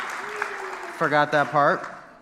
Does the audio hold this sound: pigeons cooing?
no